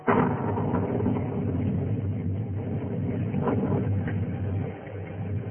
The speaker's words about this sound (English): No thunder in the world, Johanna, like the thunder of the Catskills. The lightning seems to set the mountains on fire. They roar back.